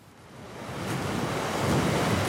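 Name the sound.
sea waves lapping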